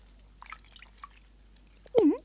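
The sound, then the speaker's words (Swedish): A sailor throws a dented, broken coffee pot into a lake. It lands with a single loud, hollow plop and splash near the end, after a stretch of faint, scattered small noises. “Han kastar kaffepannan i sjön.”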